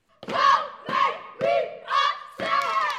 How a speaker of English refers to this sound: The sound of the eight-member Kelly Miller step team screaming, stomping, and clapping echoes through the hallways of the middle school. They're reviewing step combinations for their final competition this year